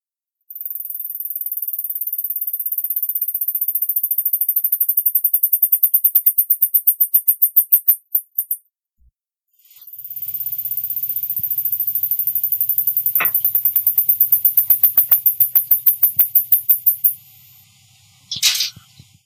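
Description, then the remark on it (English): Two mice from Long's lab sing a very high, thin whistled duet, the first mouse starting it and the second finishing it: long shrill trills that break into rapid clicking pulses and stop, then the second bout answers over a faint low hum. “The singing is a very high-pitched whistle.”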